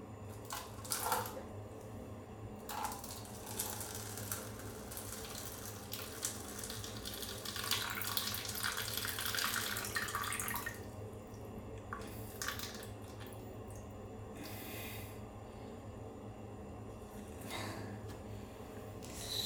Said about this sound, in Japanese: じゃあもう早速なんですが、おしっこしていきます。ちょっと閉めとくかな。あれだからね、紙コップにするかつ朝の一発目だから、ちょっとなんかここかなこぼしちゃいそう。よし、じゃあいきますね。